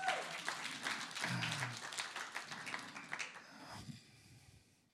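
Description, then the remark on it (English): An audience breaks into dense, steady applause in response to the speaker's words about God, many hands clapping at once, with a low voice or cheer rising briefly underneath, before the clapping thins and fades out near the end. “I thought that deserved a bit of a clap, actually.”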